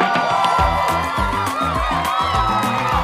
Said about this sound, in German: Flipsi findet's raus und am Ende gibt's Applaus.